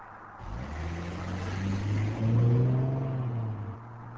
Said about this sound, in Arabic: طب سوق بسرعة بقى.